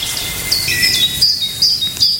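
A great tit sings a series of high, thin whistled notes in a steady repeating pattern, clear over a soft low background hum.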